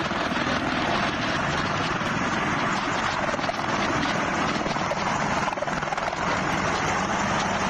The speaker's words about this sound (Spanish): pues resulta que a esta hora un avión español acaba de salir de Kabul, de ese aeropuerto que sigue siendo un caos de gente, de aviones, de militares y de helicópteros sobrevolando la zona para garantizar la seguridad.